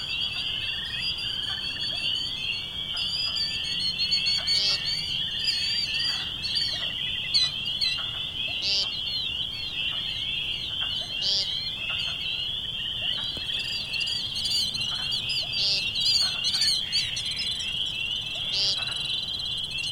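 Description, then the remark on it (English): A dense, unbroken chorus of spring peepers and wood frogs, high shrill peeps overlapping constantly, with scattered bird chirps and low outdoor rumble beneath. No one speaks. “So it's with relief that I've welcomed back the sounds of migratory birds like American woodcock and killdeer and heard the first calls of spring peepers and wood frogs.”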